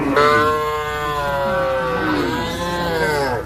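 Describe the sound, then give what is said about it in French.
Oxen in the Elbo district, about 20 km from Arba Minch, Ethiopia, low in long, drawn-out calls that fill the whole stretch while their backs are sprayed with a chemical pesticide. Their tone wavers and slides, with a second call seeming to overlap near the end. No one speaks. “Ce que l'on fait aujourd'hui, c'est asperger le dos des bœufs avec un produit chimique.”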